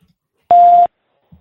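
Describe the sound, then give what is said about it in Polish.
A single steady electronic telephone beep, loud and clean, lasting about a third of a second, as a listener's phone call connects; near silence surrounds it. “Ale myślę, że na to może też odpowiedzieć nasz słuchacz, bo widzę, że mamy telefon.”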